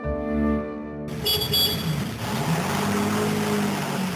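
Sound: car driving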